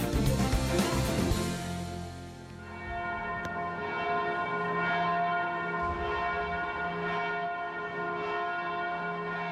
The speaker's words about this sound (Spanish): Pues la UNESCO declaró hace un año el toque manual de campanas español Patrimonio Cultural Inmaterial de la Humanidad.